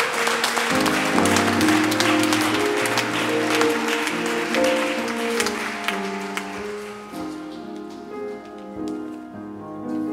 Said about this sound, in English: Come on, church, come on, let's give God a hand clap.